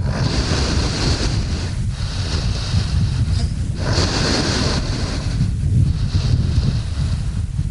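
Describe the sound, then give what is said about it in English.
Heavy, slow breathing of a sedated polar bear, recorded with the microphone an inch from its snout, with broad rushing inhales and exhales repeating about every two seconds over steady wind-like noise. The bear rests on a slushy bed of ice in the Chukchi Sea, 100 miles from land. No voices. “It's not every day you find yourself holding a microphone an inch from a polar bear's snout.”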